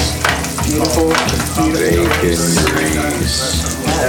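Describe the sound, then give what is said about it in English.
Jalapeño, potato and corn fritter cakes fry loudly in hot grease, a steady crackling sizzle that runs unbroken for the whole few seconds, with some faint tonal sound underneath. “That's a free range sizzle right there.”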